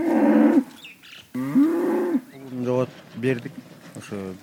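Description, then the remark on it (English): Cattle moo loudly: two long, drawn-out calls followed by several shorter, choppier lows, with brief gaps between them. About 10 head of cattle are kept here in a barnyard, in a village with muddy, unpaved streets below the snow-covered Tian Shan Mountains. “Forty-seven-year-old Alim Saltavat keeps about 10 head of cattle here.”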